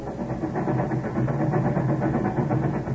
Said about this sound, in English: Ben, do you hear what the train wheels are saying? They're saying, Chicago, Chicago.